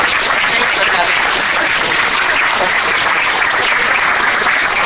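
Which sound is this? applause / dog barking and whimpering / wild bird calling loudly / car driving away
applause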